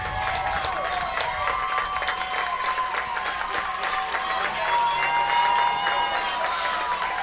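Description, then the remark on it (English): A large stadium crowd at an American football game roars continuously, with scattered whistles and shouts cutting through, during the third quarter with third and goal from the 3-yard line. The noise holds steady, then swells louder about two-thirds of the way in as the fans rise to their feet and cheer. “Crowd now coming up on his feet here.”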